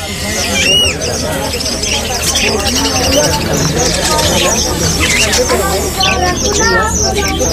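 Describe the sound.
Pigeons in cages coo and birds chirp in bursts over a steady, crowded din at a market where caged birds are sold, with people talking throughout.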